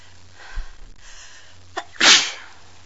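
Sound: sneeze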